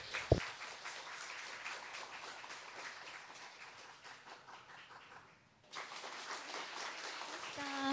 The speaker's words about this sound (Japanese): それでは準備が整いましたならばお願いいたしましょう。それではどうぞ拍手をお送りください。